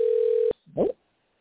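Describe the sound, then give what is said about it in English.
A phone ringing on an outgoing call to bring a guest onto a program: one steady, mid-pitched ringback tone holds for half a second, then cuts off with a click, followed by a brief voiced sound. “And it's ringing.”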